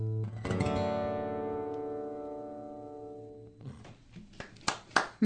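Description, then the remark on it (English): A held musical chord rings out and fades, then scattered clapping starts up and builds into audience applause, with a few sharp claps standing out near the end. “nice round of applause out there from the folks.”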